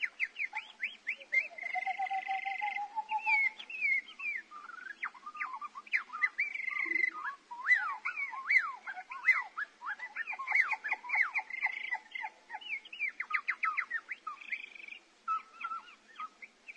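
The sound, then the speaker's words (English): A recording of a song: many overlapping whistles, chirps and rapid trills keep up a busy, continuous tangle of song from start to finish, with no talking. “I wanted to talk about ….”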